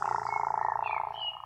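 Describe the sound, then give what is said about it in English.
A cat named Ollie meows in one drawn-out, steady call with a slightly fluttering, trilling texture, heard alone for about a second and a half. “This is Ollie, my cat.”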